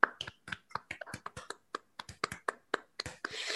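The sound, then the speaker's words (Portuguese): A quick, uneven run of sharp hand claps, roughly twenty in a few seconds, bright and crisp with short gaps, ending in a brief wash of hissy noise. “Palmas”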